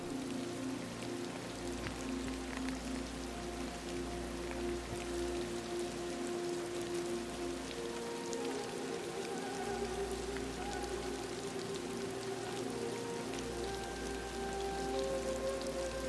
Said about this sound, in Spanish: Quizás tumbarte y descansar mientras escuchas el suave murmullo de la lluvia que te envuelve.